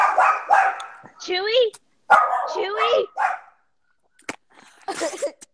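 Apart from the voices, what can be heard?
dog barking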